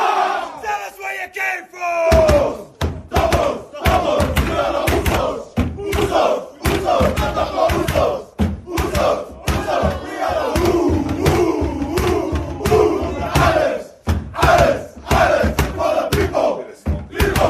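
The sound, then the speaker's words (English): The Moana Pacifica rugby team loudly chants its team song in unison, starting with a sustained group call, then a forceful rhythmic chant punctuated by heavy stomping thuds throughout. “And I feel like the Moana Pacifica team song is up there with one of the best.”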